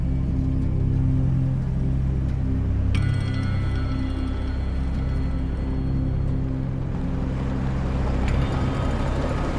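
A car engine hums with a low, steady rumble as the car drives away, holding fairly loud throughout with a faint higher whine creeping in partway through; no voices are heard.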